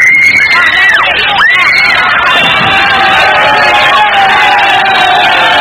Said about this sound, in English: He came hurtling out the door then when the police opened it to put two more in, and you heard the screams of the girls in the crowd.